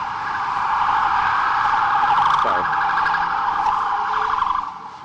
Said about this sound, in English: I apologize. There's a... I hear a siren. I'm sorry. It's the police here. Hold on.